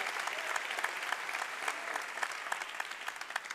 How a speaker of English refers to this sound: I was hoping you guys would clap at that